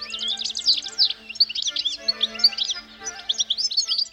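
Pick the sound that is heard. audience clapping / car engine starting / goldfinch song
goldfinch song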